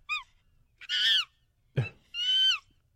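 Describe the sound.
A voice imitates a woman's monkey-like snoring while she sleeps, in four shrill bursts: a quick squeak, a long screechy wail, a rough grunt, then another drawn-out screech, with brief silences between.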